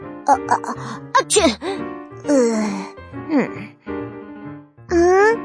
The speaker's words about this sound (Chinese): …，你怎么啦？…，你为什么要打喷嚏呀？